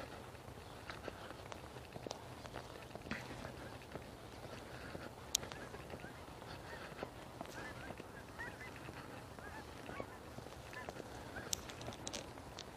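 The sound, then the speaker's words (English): Geese honk faintly overhead, scattered calls drifting in and out over steady outdoor background noise, with what sounds like footsteps. “Oh, here comes some geese. Hello, geese.”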